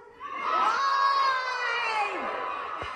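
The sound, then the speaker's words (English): A large crowd at an after-party gathering in Atlanta yells together in one loud, drawn-out shout of "Lie!" in answer to being asked what Trump did. The shout swells quickly and holds for about three seconds, many voices blending into a sustained roar. “And let me ask the crowd, what did Trump do?”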